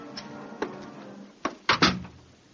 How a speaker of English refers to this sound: You turn the key in the lock. And you open the door.